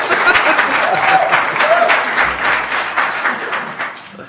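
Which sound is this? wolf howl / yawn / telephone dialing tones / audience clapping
audience clapping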